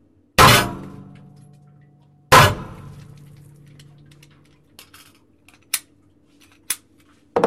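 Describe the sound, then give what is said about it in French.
Two sharp, loud 9 mm test gunshots about two seconds apart, fired into a water well to recover the projectiles. Each is followed by a long ringing decay, then several faint clicks and small knocks. No one speaks. “Alors ici, on va effectuer donc les tirs dans le puits et on va récupérer donc le projectile qui a été tiré.”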